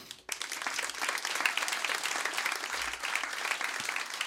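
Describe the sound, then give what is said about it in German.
A crowd applauds steadily, a dense wash of many hands clapping that starts abruptly and stays fairly loud and even throughout, with no one speaking. “Euer Applaus.”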